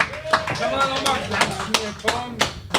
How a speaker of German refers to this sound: Einmal Applaus, Leute.